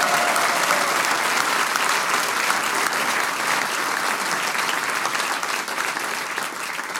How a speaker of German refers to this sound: Albin, das ist dein Verdienst. Großer Applaus für den Albin Wiesenhofer und für den Verein Volksklang.